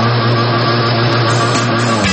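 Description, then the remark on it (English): An outboard boat motor roars at high throttle in a radio advert for Carl's Auto and Marine, a loud, steady engine drone with a low buzzing hum that holds constant for a couple of seconds, with no voices. “Throttle up, open her up, and cruise through the waters.”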